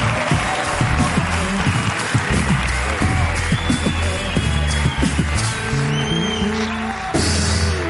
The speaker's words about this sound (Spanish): Un aplauso para Miguel Campos, hoy en La Resistencia.